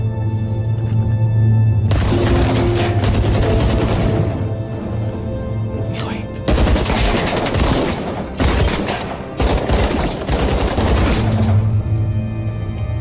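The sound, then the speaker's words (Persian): Loud bursts of rapid gunfire ring out, several dense volleys of shots separated by brief pauses, with no one speaking. “کی داشت شلیک میکرد؟”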